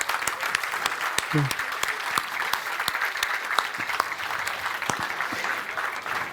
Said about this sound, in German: Eine Meldung. Gerne nach vorne kommen. Ein Applaus.